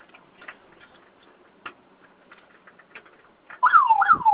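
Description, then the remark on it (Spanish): Quiet scattered clicks and rattles, then a door security alarm suddenly blares, a loud, rising-and-falling electronic warble that repeats rapidly until the end. “Ahora sí ya está sonando la alarma.”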